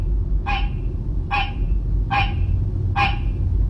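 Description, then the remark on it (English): A hybrid green and barking tree frog mating call: four short, hoarse, bark-like notes repeated at a steady pace, moderately loud over a constant low rumbling background. “This is a mating call of a hybrid resulting from the cross-mating of the green tree frog and the barking tree frog.”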